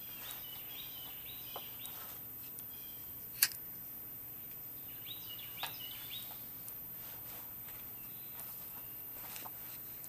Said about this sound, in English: This is as far as we get into my stairwell. So you all hear the birds.